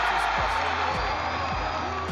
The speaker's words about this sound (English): the roar of a crowd. Things can get pretty noisy when huge groups of people are cheering and yelling, like at a sporting event. The crowd at the 2011 NBA playoffs was measured at 115 decibels, which sits about average for an event of this kind.